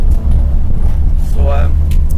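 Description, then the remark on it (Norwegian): A car's engine and road noise rumble steadily from inside the vehicle as it drives up a hill on a lap of a course toward the finish line, with a short burst of voice partway through. “det døgget litt inn i bilen her”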